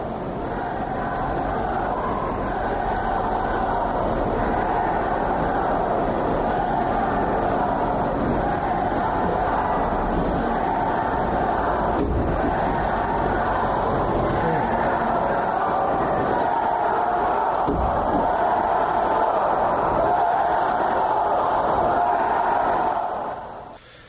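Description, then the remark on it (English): A large crowd of roughly a thousand people chanting "Let us go" together outdoors, a dense, loud, continuous roar of massed voices that starts off low and swells louder over about twenty-four seconds. “About 1,000 people chanting, "Let us go," at that point.”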